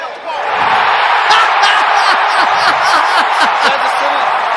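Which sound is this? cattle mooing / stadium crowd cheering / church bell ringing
stadium crowd cheering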